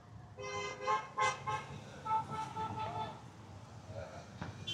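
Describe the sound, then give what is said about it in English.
Several car horns honk in quick bursts, overlapping blasts rising and falling over a steady outdoor din with a murmur of voices. “Ask not for whom the horn honks. It honks for you.”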